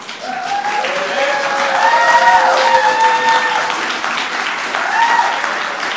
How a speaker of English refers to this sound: the applause is, you're welcome to it, but people are going to struggle to hear their names being called out as well.